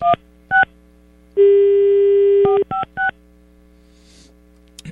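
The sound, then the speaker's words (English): Telephone keypad beeps sound in short separate presses as a phone number is dialed, then a steady line tone holds for about a second before a quick run of three more beeps, all over a faint low hum. “Maybe I dialed it wrong.”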